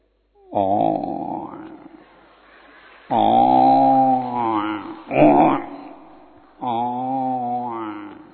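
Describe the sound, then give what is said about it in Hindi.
A human voice imitates a buffalo with low, drawn-out bellowing moans: three long, loud calls with a short burst between the second and third, each rich and droning before fading. “भैंस का आवाज, बफेलो।”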